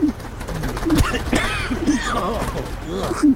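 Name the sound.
pigeons cooing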